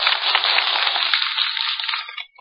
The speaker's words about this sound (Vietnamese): Thầy rất vui khi nghe được một tràng vỗ tay thật giòn, thật to của các quý vị.